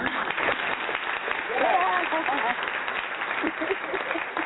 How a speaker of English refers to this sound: Can we get a round of applause for this great queen that we got in the building tonight? Thank you. We have to give her a proper round of applause, so let me take care of that.